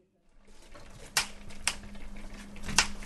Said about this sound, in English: Chopping vegetables in her New Bedford kitchen